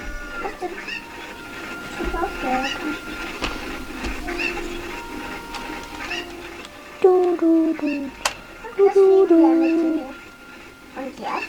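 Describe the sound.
A dog whimpers in a few short, high, falling whines near the end, clear, while a voice repeats a short syllable and a soft background hum continues.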